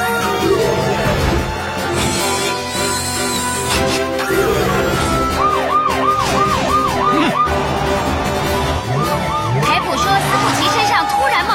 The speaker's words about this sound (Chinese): 邮局发生火灾了。 什么？火灾警报！火灾警报！